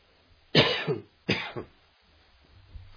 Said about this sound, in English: Excuse my coughing, please.